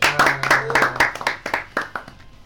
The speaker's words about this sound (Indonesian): Kita harus apresiasi juga, tepuk tangan.